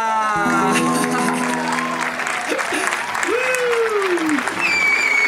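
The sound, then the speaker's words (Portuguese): An audience claps steadily and loudly for about five seconds, a dense, even patter of many hands, with a few high-pitched voices whooping and cheering over the applause, given for a story just told. “Palmas pra nossa história!”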